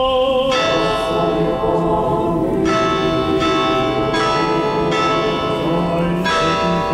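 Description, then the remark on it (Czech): Church bells of the largest Orthodox church in Serbia, in Belgrade, peal loudly and continuously to mark the start of a prayer, with several strikes overlapping into a dense, ringing wash of sustained tones. No voices are heard. “Zvona iz najvećeg pravoslavnog hrama u Srbiji označila su početak molitve u znak podrške kako je uoči ovog skupa saopštila Srpska pravoslavna crkva srpskom narodu u Crnoj Gori.”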